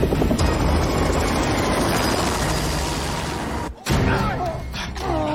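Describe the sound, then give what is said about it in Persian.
A helicopter approaches, its loud, steady rotor roar filling the scene, a dense low thrum that holds strong throughout, briefly cutting out near the end before returning with some faint voices underneath. “شنیدین؟ الان از یه هلیکوپتر برسه.”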